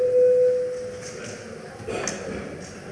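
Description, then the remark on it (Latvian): A voting signal in the Latvian Saeima (parliament), called before a vote on a tax law amendment bill, sounds as a single steady mid-pitched tone, strong at first and fading out after about a second, over a low murmur of voices and room noise. “Lūdzu zvanu.”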